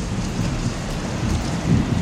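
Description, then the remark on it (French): A heavy storm of wind and rain roars steadily, dense rain hissing over a deep, rumbling low end like wind and thunder, constant and fairly loud throughout with no voices. “je le cite, une tempête de vent et de pluie inimaginable.”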